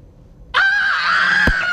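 A woman lets out a loud, sustained, shrill scream that starts abruptly after a brief quiet moment and holds steady, with a short thump partway through.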